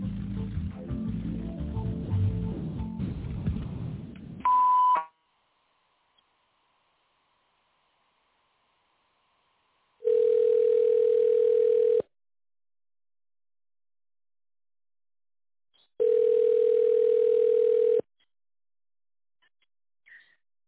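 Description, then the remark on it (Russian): Two long, steady telephone ringback tones, each lasting about two seconds with a gap of silence between them, follow a brief burst of muffled sound and a short beep, on a call to the Fresenius company line, waiting for the secretary to answer after the automated menu. “Если вы знаете добавочный номер абонента, наберите его после звукового сигнала или дождитесь ответа секретаря.”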